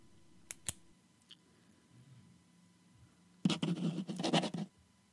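A couple of sharp clicks, a quiet pause, then about a second of dense scratching of a pen dragged quickly across paper, as if scrawling a signature. No one speaks.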